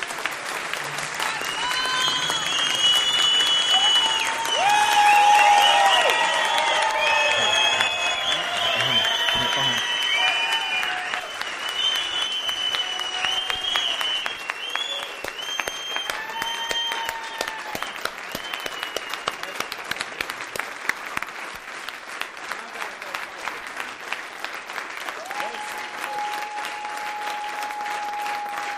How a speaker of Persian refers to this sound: اونجوری که شایسته است تشویق کنید.